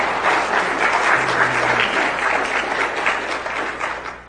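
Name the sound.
audience applauding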